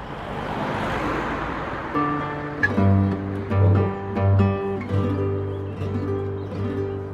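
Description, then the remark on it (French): Steady road traffic rumbles at the new bridge by the river in Perpignan, with a vehicle's engine droning and swelling as it passes, over a constant wash of roadway noise. No one speaks. “Mais bon, je vois que c'est resté quand même un quartier tranquille. À part le pont, la circulation.”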